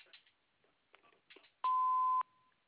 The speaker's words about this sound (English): At the beep, you know what to do.